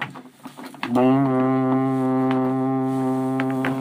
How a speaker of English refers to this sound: I can hear the foghorns going.